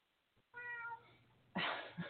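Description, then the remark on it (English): A cat meows in a studio, a clear tonal cry followed a moment later by a louder, rougher and more strained second call, with no talking. “I have a farm here, don't I? Cats and dogs and all sorts of things.”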